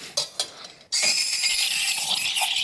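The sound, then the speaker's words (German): A couple of sharp mechanical clicks, then an espresso machine's steam wand, on its boost function, bursts on with a loud, steady high-pitched hiss that continues unbroken to the end as it froths milk. “Also die Boost-Funktion funktioniert super. Ja. Du hast jetzt richtig Dampf.”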